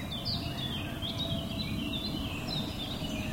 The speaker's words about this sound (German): Es ist still, es hat Vögel, die zwitschern und sonst hört man gar nichts.